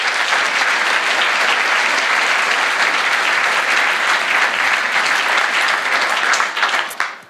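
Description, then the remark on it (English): An audience breaks into applause for Team Star, about to present a talk on downgrading iOS: a dense, steady wash of many hands clapping that holds at full strength for several seconds before tapering off at the end. No one speaks over it. “So with that, I would like to ask all of you to give Team Star a warm round of applause.”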